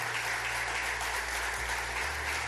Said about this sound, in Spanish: yo quiero darle un aplauso de bendición a ellos.